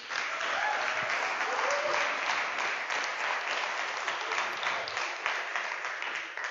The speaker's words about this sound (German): Danke euch, Lobpreisteam. Lass uns dem Lobpreisteam mal einen fetten Applaus geben.